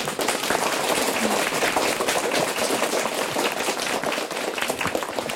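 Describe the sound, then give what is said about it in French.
A room full of third-grade (CE2) schoolchildren claps enthusiastically for their selected classmates, a dense, steady wash of many small hands applauding for several seconds without pause. “Aujourd'hui, les CE2 jouent avec nous, les CE2 qui sont réunis dans cette salle et qui vont applaudir très fort leurs copains et copines sélectionnés.”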